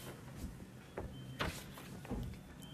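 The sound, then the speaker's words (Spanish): The door of a shelter opens with a few soft scraping, rattling bursts spread over a couple of seconds, fairly quiet, with no voices. “Abrió la puerta y no vio a nadie.”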